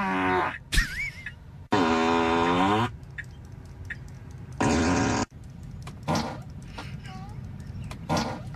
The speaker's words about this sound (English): Was that the windshield wipers making fart noises?